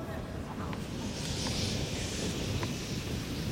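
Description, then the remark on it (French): A strong gust of wind roars across an outdoor clay tennis court during Novak Djokovic's service game, sweeping clay dust across the court. It is a steady low rumble with a breathy hiss on top that holds for several seconds, with faint voices in the background. “On est sur la diagonale gauche et justement une grosse bourrasque là. À l'instant même, il arrête son geste, il laisse passer le vent.”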